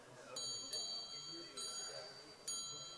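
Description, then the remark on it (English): A small bell rings repeatedly with bright, sustained metallic tones, struck four times at uneven intervals and fairly quiet, over a faint background murmur. “That's not the trumpet blowing, that's the bell ringing.”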